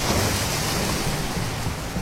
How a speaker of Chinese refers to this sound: 半夜的大海听起来比任何曾经的噩梦都还叫人害怕。